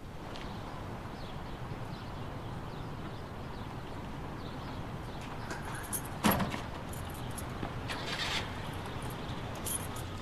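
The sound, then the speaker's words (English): Metal keys to a shop jingle briefly as they are handed over, a sharp clink near the middle followed by a softer rattle, over a steady low background hum with no talking. “Here you go, the keys to your shop.”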